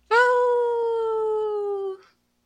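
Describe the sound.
A single lone wolf howl, one long steady tone that slowly slides downward in pitch over about two seconds, loud, then cuts off into silence.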